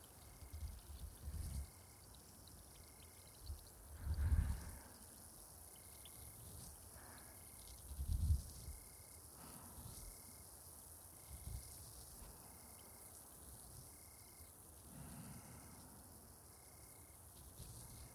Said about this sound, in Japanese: こちら、炭酸を染み込ませた綿棒でお耳をじゅわーっと甘やかしていきます。